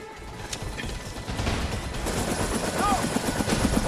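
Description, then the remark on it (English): Rapid, continuous gunfire crackles in dense overlapping bursts over the loud, noisy rumble of a helicopter: a team's covering fire as a man dashes from the helicopter towards a hangar door, growing slightly more intense toward the end. “Henderson dashes from the helicopter and, under covering fire from his team, lopes towards the hangar door.”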